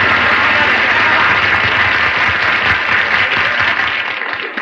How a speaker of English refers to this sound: I want to hear some kind of noise. Applaud me, folks.